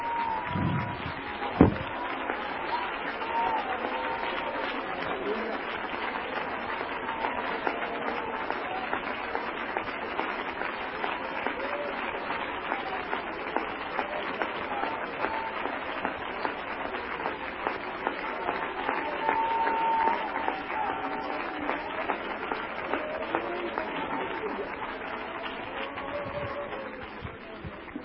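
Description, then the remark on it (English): A large crowd at a religious gathering claps and applauds in a dense, steady roar of hands that keeps up for nearly half a minute, with sharper individual claps popping out and faint voices mixed in. “Would you stand to your feet? Would you clap again? Would you clap again, O house of Israel?”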